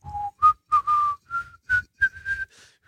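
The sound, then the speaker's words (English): A person whistles a short, jaunty melody, the tune from a Corona beer advertisement, in a series of clear, bright notes, some quick and clipped, others held, rising in pitch toward the end. Fairly loud, with no talking. “And, you have the guy whistling.”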